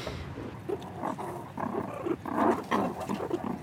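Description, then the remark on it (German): Meerkats growl, snarl, smack and hiss all around, a rough stream of throaty rasps with sharper hissing bursts and wet smacking sounds, steady and fairly loud with no speech. “Es knurrt und schmatzt und faucht und schnurrt um uns herum.”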